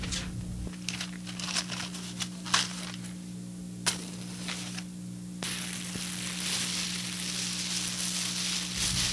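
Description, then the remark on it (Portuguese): A lit match is thrown and flares with scattered crackles and pops, then flames catch and swell into a steady, rushing hiss that continues to the end over a low, constant hum. “Da porta, eu vou atirar um fósforo aceso e o fogo fará o que é necessário.”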